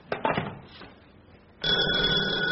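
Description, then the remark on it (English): A front doorbell rings with a loud, sustained electric buzz for about a second, after a few faint knocks and rustles. No one speaks. “Darling, that was the front doorbell.”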